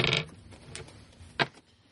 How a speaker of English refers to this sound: Why do I keep dropping this die?